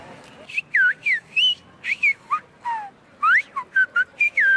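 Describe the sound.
A man whistles a rapid series of short, varied notes, some rising, some falling sharply, in quick bursts like a coded signal, clear with faint background noise: a father whistling clues to call his son and guide him to a hidden wallet and phone.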